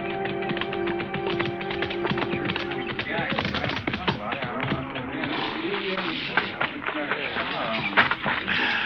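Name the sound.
horse hooves clip-clopping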